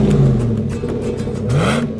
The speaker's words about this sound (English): Wow, your truck sounds great. What did you do? It is great, isn't it? I had Danny's Muffler install a customized exhaust system. Dual exhaust sounds really great. It's amazing. Your truck has a healthy, strong sound to it.